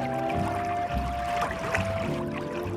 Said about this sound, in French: Il est 9h du matin sur les bords de Loire. On est près de Tours. Et voilà un magnifique bateau sur le ponton où je suis.